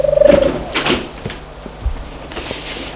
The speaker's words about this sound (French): Elle entre et ferme la porte.